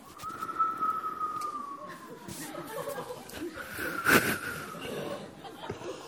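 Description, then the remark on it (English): A voice imitates the wind whistling past high dungeon windows, a long, thin whistle that slowly sinks in pitch, followed by a shorter whistle, while people laugh and chatter. “And when they went past one of these high windows from the dungeons, the wind would always whistle.”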